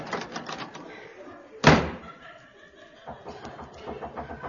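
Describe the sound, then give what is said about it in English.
A single sharp, loud knock or thump on a wooden door lands midway, with chuckling and murmured voices before and after it. “Well, why don't you knock? I'll let you in.”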